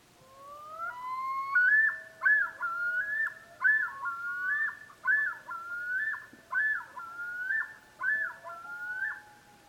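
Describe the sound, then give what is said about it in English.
A chorus of male common loons yodeling on a summer night, with several overlapping voices: repeated rising, warbling cries in a steady pulsing rhythm, loud and high-pitched, with long wavering wails beneath and no talking. “When it comes to sounds that evoke the northern wilderness, the nocturnal cries of the common loon are right up there with howling wolves.”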